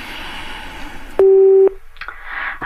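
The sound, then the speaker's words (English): A telephone ringing tone comes down the line as one loud, steady electronic burst lasting about half a second, set between stretches of muffled background noise. “You took ages to get to the phone.”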